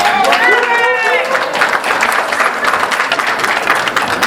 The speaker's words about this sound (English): Now, this is a very good group, lots of clapping.